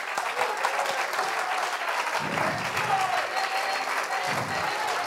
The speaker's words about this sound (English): Why don't you clap your hands one more time and thank God.